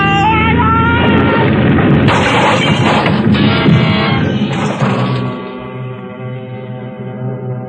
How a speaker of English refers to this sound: For a long moment, there was nothing but a vague blackness all about me, and the sound of our crack-up seemed to roll and echo almost dreamily back and forth in the deep recesses of my mind.